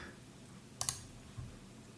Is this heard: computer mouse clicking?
yes